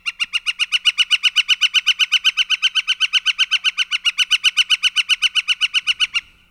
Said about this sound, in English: let's switch from that melodic song to the northern flicker, a woodpecker. Once you hear this call, you will hear it all the time. It's one of those ones that you will frequently hear in the around Vancouver. Very distinctive call.